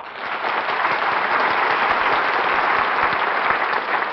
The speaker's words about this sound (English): Thank you. And since you're so generous, why not save some of that applause for Camel Cigarettes?